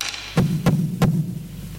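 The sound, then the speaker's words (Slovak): Three firm knocks on a door in a steady rhythm, each a short hollow thud with a low resonant body, followed by a brief quiet tail with no voices. “A predsa znova niekto klope.”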